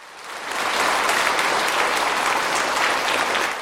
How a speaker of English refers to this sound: At the Beijing Aerospace Flight Control Center, engineers and scientists erupt in applause as telemetry confirms the spacecraft has entered its planned orbit.